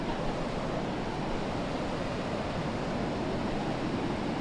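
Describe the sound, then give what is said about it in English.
Ocean waves wash far up the shore in a steady, loud roar of rushing water with a gusty, windy edge, continuing without pause and with no voices. “I forgot about this. The water sometimes comes way up.”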